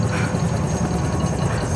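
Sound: helicopter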